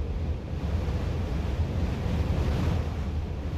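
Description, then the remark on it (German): Strong wind roars steadily, whistling around the top of a lighthouse about 100 metres above sea level, with heavy low buffeting and a broad hiss that holds at an even level throughout, with no voices. “Der Wind, der auf dem Berg na eben so gepustet hat, pfeift oben um den Leuchtturm und zerrt an denen, die sich raus auf den Umgang wagen.”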